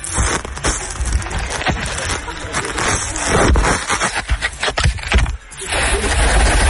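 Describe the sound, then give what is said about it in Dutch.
A phone being shaken, dragged through sand and licked by baboons on the ground of their enclosure at Wildlands: loud, continuous rough scraping and crackling rustle, with irregular thumps and bursts of handling noise throughout. “Ze schudden ermee, hij wordt door het zand gehaald, ze likken er een beetje aan.”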